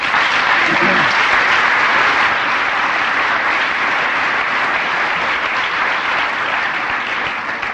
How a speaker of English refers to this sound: You're applauding AA and Al-Anon.